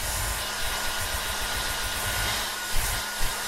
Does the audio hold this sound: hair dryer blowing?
yes